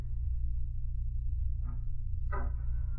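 A bedroom door creaks open in two short, squeaky bursts, the second louder and harsher, over a steady low hum with no voices.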